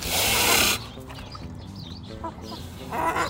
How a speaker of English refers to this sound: am hanging out by a pig pen with my new pal, Whiskey. Say hi, Whiskey.